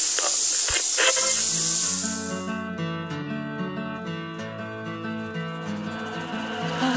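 A woman's shower runs with a loud, steady hiss of spraying water for about two seconds, then fades beneath music that rises and carries on to the end.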